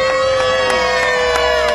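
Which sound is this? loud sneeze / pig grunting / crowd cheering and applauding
crowd cheering and applauding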